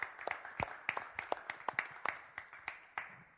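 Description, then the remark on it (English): A small audience claps their hands for their parents in a steady but slightly uneven patter of sharp claps over a soft hum, moderately loud and sustained for a few seconds with no talking. “Can we clap our hands for our parents?”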